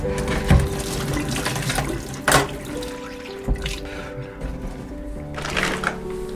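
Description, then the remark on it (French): Water runs steadily into a 5-litre plastic jug being filled, with a continuous gurgling pour and a few sharp knocks and clunks of the container being handled. “Là, on est chez Henri et on remplit les bidons de 5 litres.”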